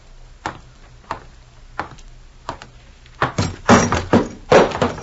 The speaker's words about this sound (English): She knocks over ashtrays, too, eh?